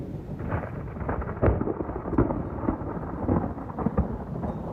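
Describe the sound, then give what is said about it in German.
Thunder rumbles steadily through a storm at a woodworking workshop, a deep continuous roll with a few sharper cracks, while rain hisses faintly underneath. No one speaks. “Doris Bimmer ist dort mit einem Grollen empfangen worden.”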